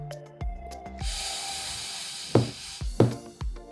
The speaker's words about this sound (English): Now let's go ahead and practice deep breathing. Breath for 4.